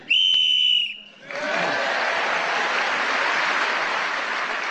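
A game-show timer whistle gives a single sharp, steady blast lasting about a second, then a burst of warm applause swells up and continues steadily until the end.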